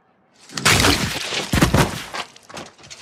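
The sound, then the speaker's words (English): The Mountain's head smashing against the wall of the peeing guy: two loud, crunching impacts about a second apart, each followed by cracking, crumbling debris that trails off into quieter rubble sounds. “Can we hear the mountain's head smashing against the wall of the peeing guy?”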